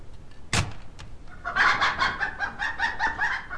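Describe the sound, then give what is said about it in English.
A sharp knock, then a chicken clucks in a quick, bobbing series of fairly loud clucks lasting a couple of seconds, with no talking. “Still think you're a chicken, do you?”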